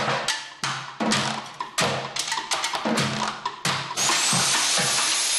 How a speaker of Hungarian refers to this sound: Egy fúróval fogok játszani, meg lesznek más különleges hangszerek is, flex, meg lombszívó, meg ilyen dolgok, úgyhogy ilyen különleges hangszereken fogunk most játszani.